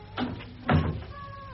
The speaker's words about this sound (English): Dear me, there's quite a draught. I'll shut the door.